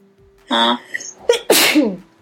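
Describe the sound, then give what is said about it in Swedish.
A loud sneeze: a drawn-out voiced wind-up breath, a brief pause, then a sharp explosive burst with a forceful spray of air trailing off. “Vänta, nu måste jag nysa.”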